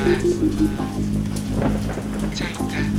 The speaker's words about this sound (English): I'm standing in the rain.